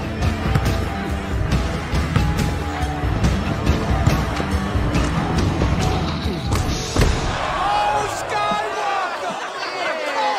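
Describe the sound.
A basketball thuds repeatedly against a hard court at Venice Beach in an irregular dribbling rhythm during a pickup game, with voices and crowd chatter around it; the bouncing fades toward the end, leaving mostly talk.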